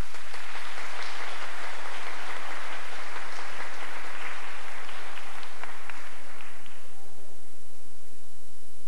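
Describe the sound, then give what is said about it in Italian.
A crowd breaks into sustained applause, dense overlapping claps filling the room for several seconds before fading out abruptly near the end. “Un applauso.”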